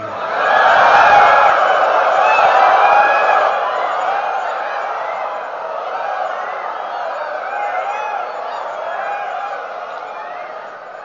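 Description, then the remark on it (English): A crowd of many voices imitates cuckoo calls, overlapping hooting and warbling cries that swell loudly at first, then carry on slightly softer in a continuous, chaotic chorus. “You sound kind of like jackals, actually.”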